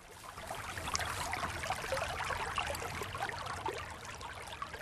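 mountain river stream flowing

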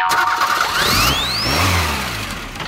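truck engine revving

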